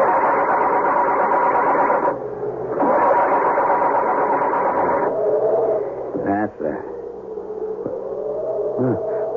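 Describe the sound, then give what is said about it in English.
A crashed car's engine, after the car hit a tree, is cranked and revved in loud, rough bursts, a buzzing drone that cuts out twice before settling into a lower, wavering idle with a few brief pitch sweeps. “Muttering a silent, heartfelt prayer, he tries to start it.”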